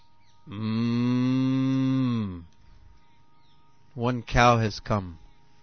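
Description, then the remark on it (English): A cow lets out one long, steady moo lasting about two seconds, loud, followed by a short burst of human voices. “One cow has come and...”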